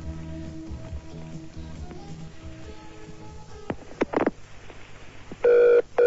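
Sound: telephone ringing tone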